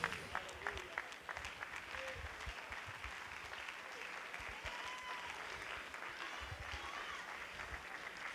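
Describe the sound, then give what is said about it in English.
A large group stands and claps their hands to the Lord, a dense wash of steady applause at an even level, with faint voices mixed underneath. “Let's stand. Clap your hands to the Lord.”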